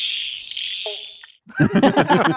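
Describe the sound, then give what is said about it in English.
A single hollow, low 'bonk' note from a pobblebonk frog over a steady, high-pitched background drone, followed by people talking. “Oh, how do you know what a poddle bonk frog sounds like?”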